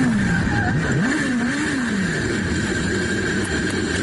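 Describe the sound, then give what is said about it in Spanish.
A race car engine roars loudly for the whole stretch, speeding at 305 km/h with no brakes, its pitch dipping and climbing as it speeds along, with a steady high whine above and no voices. “¿Cómo se detiene un coche que va a 305 kilómetros por hora?”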